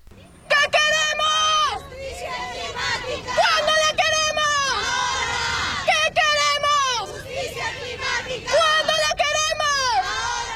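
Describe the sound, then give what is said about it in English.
A large crowd of women marching outside the United Nations climate talks in Lima, Peru, in December 2014 chants "What do we want? Climate justice. When do we want it? Now." in loud, rhythmic bursts, repeating every couple of seconds over steady crowd noise. “These women were part of the vast crowds marching outside the United Nations climate talks in Lima, Peru, in December 2014.”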